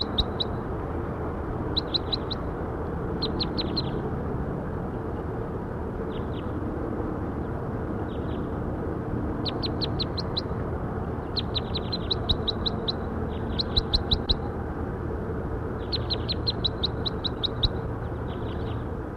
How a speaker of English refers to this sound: That was bird 5-7.